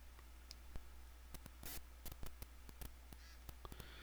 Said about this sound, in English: And after a couple seconds, it'll vibrate, letting you know it's coming on. And the noise you're hearing is just digital noise coming from the phone turning on. Comes through the connection here.